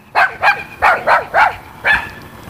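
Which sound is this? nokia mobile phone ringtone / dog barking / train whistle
dog barking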